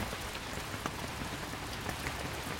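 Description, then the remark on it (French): Steady rain falling in a Japanese garden, a dense continuous patter with occasional sharper drops hitting leaves and rocks, no voices. “Il est beau sous la pluie, ce jardin ?”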